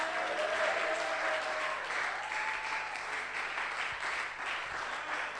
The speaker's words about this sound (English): If I've preached the truth to you, I think you can clap and shout to God's glory.